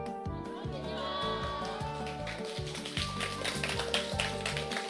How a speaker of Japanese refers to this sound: すごい、ありがとうございます。大きな拍手でお迎えいただきました。